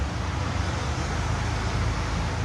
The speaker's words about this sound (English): This first one is sound your dad recorded from a cab on the freeway.